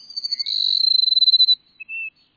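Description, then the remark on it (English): A flock of Cassin's sparrows perched atop a mesquite bush in a South Texas grassland at sunrise, singing: a high, rapid buzzy trill of pulses running about a second and a half, then two short, clear, slightly lower notes, with no talking. “The sun rising over a South Texas grassland finds a flock of sparrows, like these Cassin sparrows we're hearing, perching atop a mesquite bush.”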